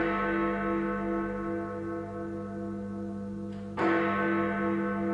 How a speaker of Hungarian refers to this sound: A harangszó és a kétperces csend ma már az emlékezésé.